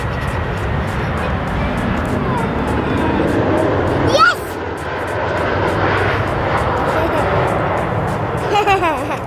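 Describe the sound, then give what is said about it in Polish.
A steady, broad engine roar from an airplane passing overhead fills the scene, fairly loud and continuous, with some background noise and birdlike chirps near the end. “Jest, złapaliśmy samolot, hurra!”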